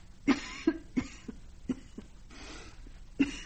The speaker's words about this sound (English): Are you ill? No. No, just a cough. Nothing serious.